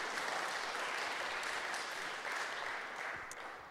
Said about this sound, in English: Give her a round of applause, everyone. Wasn't she lovely? Thank you.